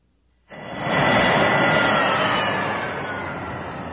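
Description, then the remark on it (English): After a brief quiet moment, the jet engines of Luke's E-wing starfighter roar in abruptly and hold steady as a dense, rushing whine, easing only slightly in volume toward the end. “As soon as Luke shut down the engines, he could hear the wind howling outside.”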